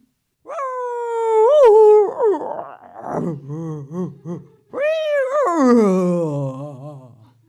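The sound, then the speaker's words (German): A creature roars loudly: a long wavering cry, a run of shorter pulsing growls, then another drawn-out howl that slowly falls in pitch. No one speaks. “Aufgeschreckt vom Gebrüll erscheinen aus dem Unterholz 10 kleine Hipster.”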